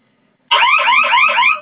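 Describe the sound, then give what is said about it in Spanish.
A loud electronic fire alarm from a security system panel suddenly starts after a brief silence, triggered by pressing the panel's two fire keys at the same time; a rapid warbling, repeating tone that sounds steady for about a second. “Vale, vamos a presionar sus dos teclas de fuego que tiene usted en su pantalla.”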